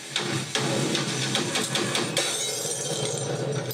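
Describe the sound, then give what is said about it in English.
A light bulb smashes with a loud crash, followed by several seconds of scattered glass fragments tinkling and clattering, with no voices. “A light smashes.”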